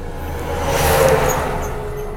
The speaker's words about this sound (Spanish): Y pasó un camión también. Ahí va un segundo camión. Iveco.